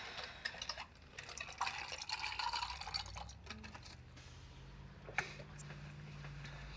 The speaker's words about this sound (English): Why can't they make quiet ice cubes?